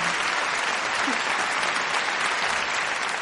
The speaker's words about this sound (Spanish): Muy bien. Un aplauso para mí.